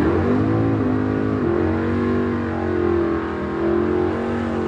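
Loud engines of brightly painted drag racing cars rev continuously as they line up in lanes at the eighth-mile Barona Drag Strip, their pitch rising and dipping in waves as several cars idle and throttle up together, with no one talking.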